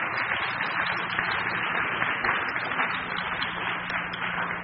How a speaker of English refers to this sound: They all drove from Kentucky just to hear me today. So, I mean, I give him a round of applause. Like, that's, there you go. That's really good.